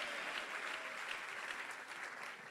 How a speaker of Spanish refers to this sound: Y ese es el aplauso. Déselo más fuerte al Señor.